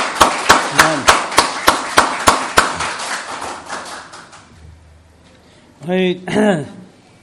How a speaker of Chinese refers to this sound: 经历到神一啲嘅祝福，可以我哋一齐拍手多谢耶稣俾我哋呢啲祝福。